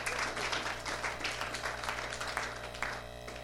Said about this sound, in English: I think we should clap for that one. Yeah.